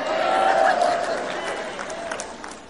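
crowd, audience cheering and applauding

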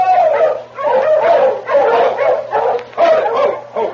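animal, dogs barking

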